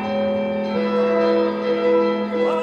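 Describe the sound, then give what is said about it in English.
Bright orchestral bells chime over thick, sustained, very dissonant chords in an orchestral passage by Mussorgsky, the whole texture swelling slightly and holding steady without any voices. “one of the things that Mussorgsky very cleverly does is he takes the orchestra and he has these chords that are introduced beneath the bell chiming sounds, and these chords are very dissonant.”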